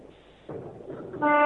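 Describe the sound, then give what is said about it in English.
The horn of a big rig truck on Interstate 70 at the Kansas-Colorado state line blasts loudly near the end, a steady, brassy tone that cuts in sharply over a low rumbling background noise. “Wow, that sounds like a big old horn.”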